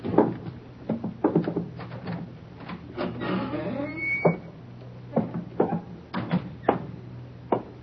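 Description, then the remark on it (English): A door creaks open with a brief squeal as someone enters, amid a series of knocking clunks and thumps, set against a steady low hum, moderately loud. “Quiet, there's somebody coming. Get away from the door.”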